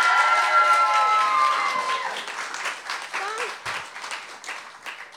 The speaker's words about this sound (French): Est-ce qu'on peut l'applaudir encore?